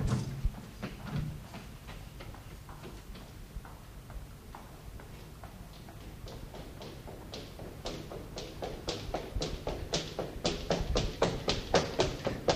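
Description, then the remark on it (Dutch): A door is being forced open with a long series of sharp, rhythmic knocks and thuds that start faint and grow steadily louder and faster near the end, with no talking. “Doe die deur op!”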